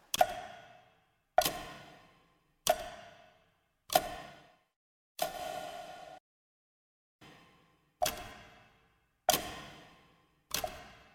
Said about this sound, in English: And tick tock, tick tock.